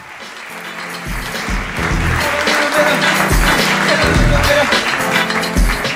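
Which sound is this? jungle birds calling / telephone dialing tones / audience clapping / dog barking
audience clapping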